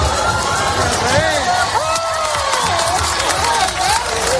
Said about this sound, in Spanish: Los reyes Felipe y Leticia llegaban entre vítores y aplausos a la Plaza Albert Einstein, desde donde han presidido el acto en el que han participado más de 3.000 militares, 150 vehículos y 70 aeronaves.